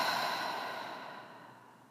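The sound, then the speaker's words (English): A long, airy exhale through the mouth during a guided deep-breathing exercise, breathing in through the nose and out through the mouth; a soft breathy rush that starts fairly strong and slowly fades over about two seconds, with no talking. “Breathing in through our nose and out through our mouth.”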